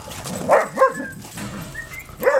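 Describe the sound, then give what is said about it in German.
Dogs, including a mixed-breed dog, bark and yip excitedly in short, uneven bursts as they meet and play at a dog boarding kennel in Waiblingen, with brief whines in between, like a lively romp. No one speaks. “Und so sieht es dann aus, wenn die aufeinandertreffen. Erstmal Party.”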